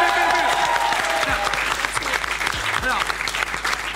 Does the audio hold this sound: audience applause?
yes